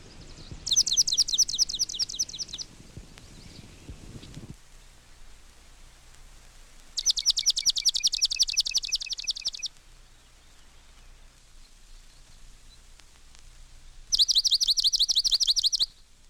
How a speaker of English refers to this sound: Swamp Sparrow. 7 examples.